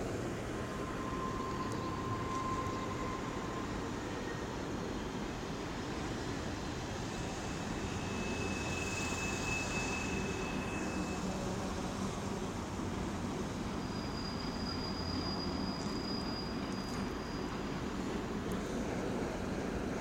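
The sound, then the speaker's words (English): A train rolls in on railroad tracks on an overcast, drizzly, snowy winter day, with a steady, heavy rumble and brief high metallic squeals rising above it, all blended with constant wind and traffic noise from a highway on the other side. “Got a train coming in on the road tracks on one side and the traffic coming in on the highway on the other.”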